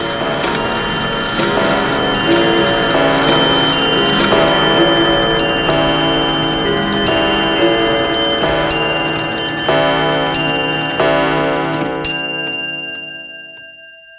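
A loud, dense clamor of many clocks striking midnight at once, overlapping chimes and bells ringing continuously for about twelve seconds before cutting off into sudden silence, with no one speaking.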